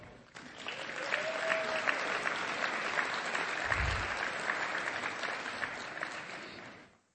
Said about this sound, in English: Let's give one last round of applause to all the winners.